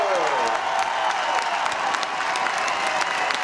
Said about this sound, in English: The picture of resilience and fight. Parker Bird will receive an ovation.